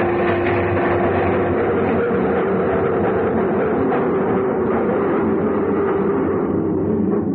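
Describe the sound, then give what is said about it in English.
A subway train clatters steadily along the rails, a loud, continuous rumble with a sustained hum and rhythmic rattling, unbroken throughout, with no voices. “Stopped at the 59th Street station, and he got up to leave. I followed him out of there. We got off the train”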